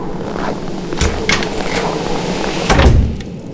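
The door of Dan Barna's house in Sibiu is opened with a few clunks and a rattling slide, then a heavier thump near the end, against a steady background rumble and no voices.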